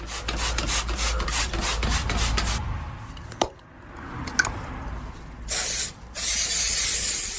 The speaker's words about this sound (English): The entire chicken coop has been thoroughly cleaned out. Now I'm going in with my spray guns, disinfectant.